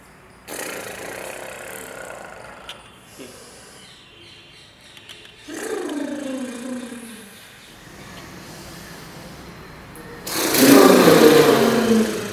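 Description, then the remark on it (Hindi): A voice imitates a deflating balloon in several bursts while breathing out and emptying the belly of air in a breathing exercise: a breathy hiss, then a whining tone sliding downward, and finally a louder, rushing hiss with a falling, sputtering pitch. “जैसे जैसे हम हवा को निकाल रहे हैं, वैसे हम अपने पेट को खाली करेंगे और साथ साथ एक गुब्बारे के पचकने की आवाज बनाएंगे।”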